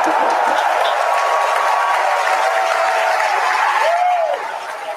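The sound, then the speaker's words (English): A large crowd cheers and applauds loudly and steadily as Starship's six Raptor engines shut down on its third flight test, a dense roar of clapping and shouts, with a sharp whistle near the end as the noise eases slightly. “As you heard there by the call out and from the crowd behind us, Starship's six Raptor engines have successfully shut down.”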